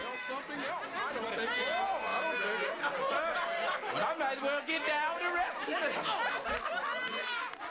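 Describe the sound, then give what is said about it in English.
A dense crowd murmur of many overlapping voices chattering, with bits of laughter rising through, steady and loud for the whole stretch without pause; a sampled crowd recording used in a song, heard from its beginning and throughout. “The crowd heard in the beginning and throughout the song is a sample”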